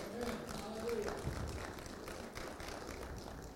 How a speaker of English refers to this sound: Give God a round of applause for always coming through for us. Amen.